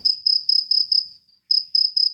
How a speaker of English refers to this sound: In this demo, you couldn't hear the cat at all? You just heard the crickets? No, it was gone.